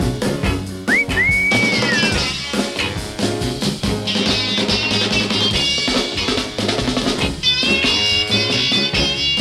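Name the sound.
wolf whistle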